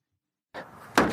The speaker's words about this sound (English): Here's them kicking the truck to show how indestructible it is.